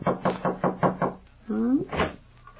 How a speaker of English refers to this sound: Over at Ma's house, there's a light burning cheerfully in the kitchen where Ma's been keeping herself busy since supper. And right now, there's a knock on the back door, and it's Shuffle who pokes his head in. Listen.